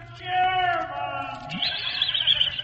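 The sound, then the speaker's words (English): A horse whinny sound effect in the Fibber McGee and Molly radio broadcast from the Great Lakes Exposition Grounds convention hall in Cleveland, Ohio, starting with a loud, wavering high-pitched neigh that slides downward, then breaking into a shrill, fluttering trill before fading out. “Probably just the ghost of a dark horse looking for its stable.”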